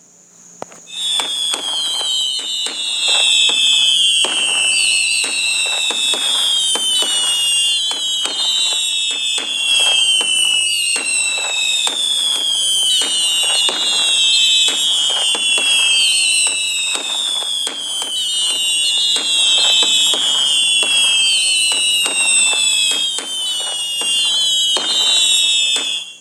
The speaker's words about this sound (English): When you swipe down with two fingers, you get fireworks from 2 minutes to, if I'm not correct, 2 minutes to maybe even 15 minutes of fireworks, okay?